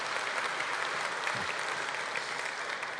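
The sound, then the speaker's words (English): A church audience applauds in a steady, dense wash of clapping at a constant level for the whole stretch, with no voices standing out. “Now, hey, that should applaud.”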